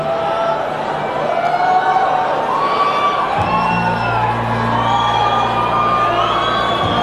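A stadium crowd of about 65,000 people hums the guitar parts of a song together in unison, a dense wash of voices carrying sustained, shifting pitched lines, with a deeper steady drone joining partway through and continuing loud to the end.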